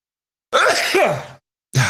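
A loud, harsh cough with a raspy, voiced rumble lasts most of a second, followed after a short pause by the start of another cough burst.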